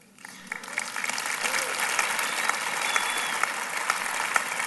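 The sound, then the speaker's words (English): An audience breaks into applause, many hands clapping in a dense, steady wash that swells quickly and holds at an even, fairly loud level throughout. “If you knew her, you'd be clapping harder.”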